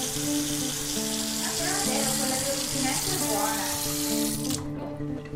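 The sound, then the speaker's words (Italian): Cold water from the fridge pours steadily into a glass, a continuous splashing stream lasting a few seconds before it tapers off and stops. “Però guardi, è dal frigo. Eh sì, bella fresca, volentieri. Rinfresco l'acqua.”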